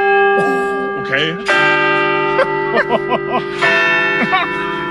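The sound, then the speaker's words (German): A church bell strikes three times at 8:45 at an unhurried pace, each toll ringing out with long, shimmering overtones that overlap, while people chat over the resonance. “es ist 8:45. Drei Glockenschläge.”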